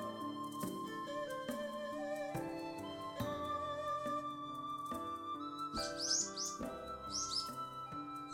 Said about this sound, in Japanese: まったくまったく、このスズメ様が足しげく通っているというのに誰もいないとは何事ですの。なのじゃ。 ものすごくさえずっているな。 さえずってない、喋っているのじゃ。